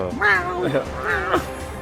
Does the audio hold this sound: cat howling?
yes